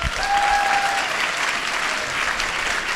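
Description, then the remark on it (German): Steady audience applause welcoming two writers to the stage, a dense wash of many hands clapping at a fairly loud, even level throughout, with a brief whistle-like tone early on. “Einen großen Applaus und herzlich willkommen”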